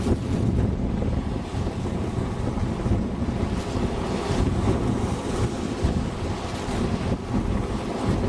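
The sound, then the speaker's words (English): Steady, rushing surf washes up on shore, a continuous roar of waves with gusty wind buffeting the microphone and no voices. “Some pretty good wave action.”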